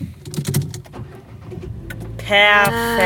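vehicle, car engine starting

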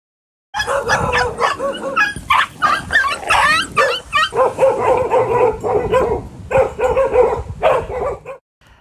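animal, many dogs barking

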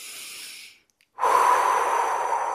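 human body sound, deep belly breathing

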